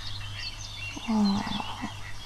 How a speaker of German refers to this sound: Und hörst du ab und zu mal so ein paar Entlein quaken.